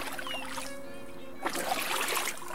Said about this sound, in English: They pushed the boat into the water, and the students took some tentative paddle strokes out to sea.